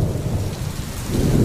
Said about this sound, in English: A summer storm.